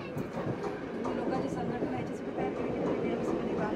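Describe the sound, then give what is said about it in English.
A loud train on the harbour line tracks rumbles steadily past, a dense roar of rail noise with faint rhythmic clatter, swamping the voices of people talking in an interview underneath. “For the second time, a train drowns us out again.”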